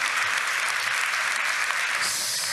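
Steady applause from an audience, a dense wash of many hands clapping at an even, sustained level for a couple of seconds with no voices.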